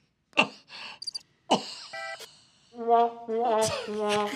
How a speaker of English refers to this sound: Please do the womp womp sound effect. Oh, wait. I got it.